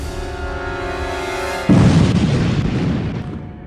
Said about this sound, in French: C'est une violente explosion de gaz. Une terrible explosion. 1,5 au niveau sismique, presque l'équivalent de 200 kg de TNT à peu près.